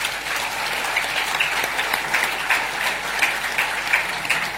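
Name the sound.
audience applause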